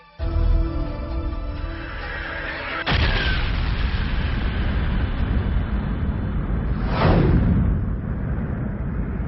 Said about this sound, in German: Sie besagt, vor etwa 15 Milliarden Jahren habe eine gigantische Explosion stattgefunden, die ihre Ursache in einem einzigen Punkt hatte, der aus dem Nichts entstanden war. So entstand das gesamte Universum mit seiner Materie und die Zeit.